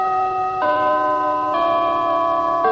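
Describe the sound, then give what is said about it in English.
A radio time-signal chime on Little Rock, Arkansas station KAAY plays alone: a sequence of sustained, ringing electronic tones stepping to a new pitch roughly every second, clear and fairly loud with no talking. “At the sound of the chime, it's daily savings time.”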